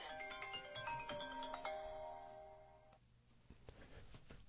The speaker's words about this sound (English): Excuse me. My apologies there. I forgot to turn off my phone ringer.